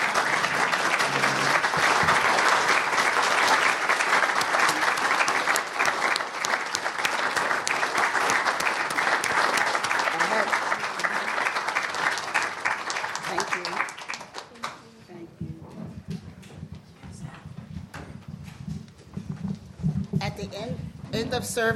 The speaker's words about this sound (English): That's what I want for these kids. I'm asking if you will all stand up and applaud these kids.